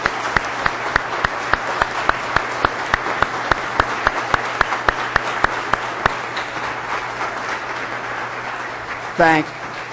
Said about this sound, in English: Would all veterans please stand and let us recognize your service in the back too? I think we ought to give them a round of applause.